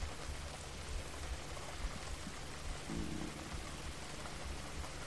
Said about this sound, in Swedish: Kan du tillåta dig att under 2 minuter bara lyssna på regnet? Föreställa dig regnet. Ha din fulla närvaro i ljudet av regnet.